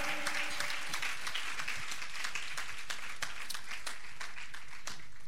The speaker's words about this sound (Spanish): Cristo vive. Fuerte aplauso a Él. Aleluya.